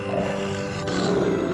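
A lion roars loudly, a deep, rumbling growl that holds steady for over a second with no pauses and no other voices.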